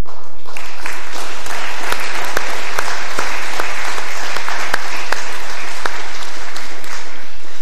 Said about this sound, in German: meine ich, sollte der erste Applaus dieses Abends gelten für Ihren segensreichen Dienst.